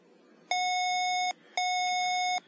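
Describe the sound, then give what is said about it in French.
Two long electronic beeps from a Canadian banknote reader, signaling that the banknote cannot be read, each steady tone lasting nearly a second with a short gap between them, clear against a quiet background. “Un bip ou vibration courte suivi par un bip ou vibration longue indique un 100$. Deux bips ou vibrations longues indiquent que le billet ne peut être lu.”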